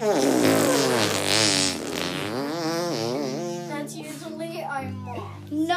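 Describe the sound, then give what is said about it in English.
A child blows a long, wobbling raspberry with the lips, imitating a fart during a guessing game of whose fart it is, the buzzy sound rising and falling for several seconds with small voiced bits mixed in. “Like, let's make fart noises and try to figure out whose fart is it.”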